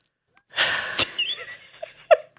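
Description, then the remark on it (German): A deep, airy breath drawn in, followed by a couple of sharp, short bursts; the breathing stands alone with no talking. “Tiefes Atmen”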